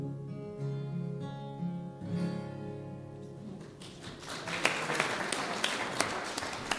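A sustained musical chord ends a folk singer's song, rings out and fades, then audience applause swells in, a dense wash of many hands clapping steadily for the last few seconds.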